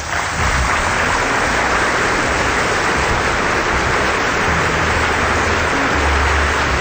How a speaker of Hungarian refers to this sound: Kedves népem, hatalmas tapsvihar tör most ki.